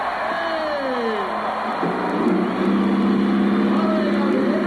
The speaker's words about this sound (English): Ladies and gentlemen, start your engines.